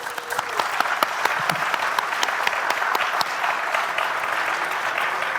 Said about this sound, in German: Aber der darf jetzt gerne zu uns auf die Bühne kommen. Kleinen Applaus für ihn, bitte.